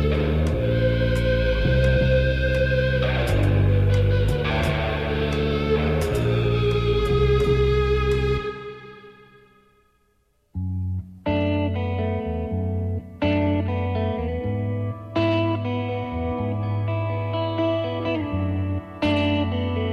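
A rock song with effects-laden electric guitar plays loudly, fades out, and after a short silence a new guitar intro begins with steady strummed chords. No singing or talking.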